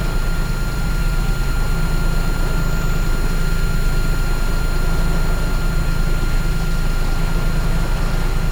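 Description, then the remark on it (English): A steady, loud boat motor drones continuously as the boat heads toward an anchorage off Rodriguez Key for the evening. A constant high-pitched whine rides over the low rumble and wash of noise. No one speaks. “Not only that, but the engine whine is still with me.”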